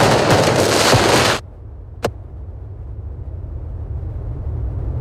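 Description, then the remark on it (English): Firecrackers thrown at police go off outdoors during protests at the Winter Olympics in Milan, Italy: a dense, loud crackling burst that cuts off abruptly, then one sharp bang, followed by a low, steady rumble of background noise. “Firecrackers have been thrown at police in Milan during protests at the Winter Olympics.”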